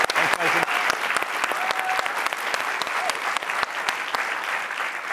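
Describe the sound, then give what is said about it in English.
Steady applause from a group of people in Studio C, clapping for the donors to a cancer cause, a dense patter of many hands clapping at an even loudness throughout, with a couple of faint tonal whistles or voices rising briefly above it. “So let's clap that up.”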